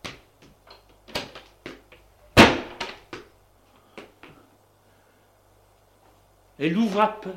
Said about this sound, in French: Elle ouvre la porte.